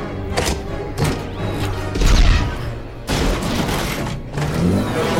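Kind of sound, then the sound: sound effect, burst of gunfire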